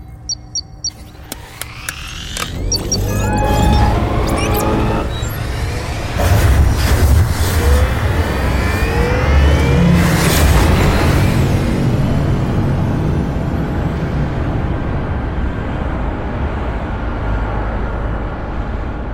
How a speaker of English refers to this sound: All hands to battle stations. We depart for Earth in 1 hour. Lieutenant, fire up the engines.